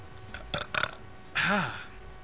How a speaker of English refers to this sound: Water belching sucks. I always feel so empty. You know when you drink a bunch of water and you belch the water up?